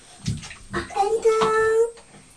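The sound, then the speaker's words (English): Water sloshes and splashes in a bathtub in a few quick bursts as a child lies down in the bath, while the child's high-pitched voice rises over the splashing. “Oh, that's your silly fault for lying down in the bath, isn't it?”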